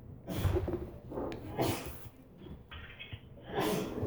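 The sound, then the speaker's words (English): A sneeze bursts out amid a few loud, breathy, snorting exhalations spread over several seconds, with no talking. “Bless you.”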